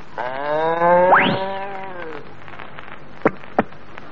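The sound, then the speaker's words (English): A voice imitates a cow's drawn-out moo, swooping upward partway through and then tailing off, followed by two sharp clicks over a steady background hiss. “Now, my first A cow jumping over a moon.”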